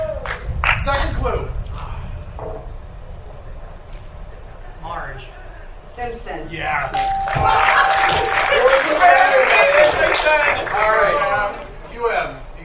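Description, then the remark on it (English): Voices talk briefly, then an audience breaks into loud, steady applause that swells and holds for several seconds before tapering off, with a few voices still audible beneath the clapping. “Congratulations. A round of applause.”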